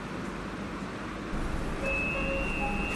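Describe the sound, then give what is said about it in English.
A steady rumbling drone of a metro train in motion as it reaches the passenger's stop, with low-frequency roar and a few thin high tonal whines appearing partway through, fairly loud and continuous with no talking. “Shahid Himmat Station. Oh, here, I have to get off the train.”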